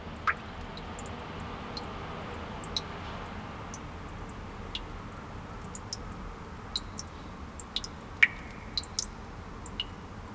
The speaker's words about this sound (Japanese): こちらも遥か昔から存在する湧き水の音です。神社に行った際は探してみてください。